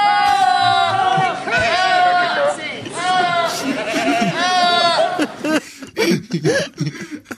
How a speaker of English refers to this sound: Do you know what you need on a Friday? What's that? Some goats shouting Who.